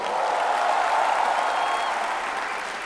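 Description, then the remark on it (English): An audience bursts into steady, dense applause to agree that Indian food is the tastiest food on the planet, loud and sustained for a few seconds before tapering slightly at the end; no one speaks over it. “Indian food, clap your hands if you agree, tastiest food on the planet.”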